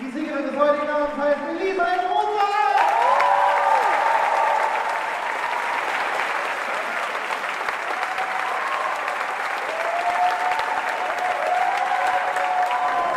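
crowd, audience applause and cheering

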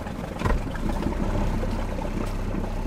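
vehicle, motorboat engine running

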